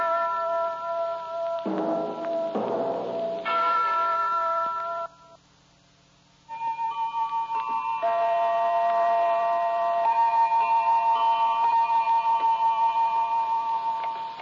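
household object, clock ticking

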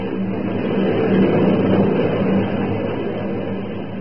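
vehicle, plane taking off

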